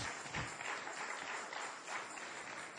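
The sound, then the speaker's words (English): A standing church audience claps their hands for the Lord in a steady, dense wash of applause lasting a few seconds, many overlapping claps blending into a continuous crackling roar at an even, moderate level. “Let's stand to our feet here this morning and give the Lord a hand clap if you understand that message.”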